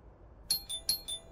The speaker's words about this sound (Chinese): 门铃响了许久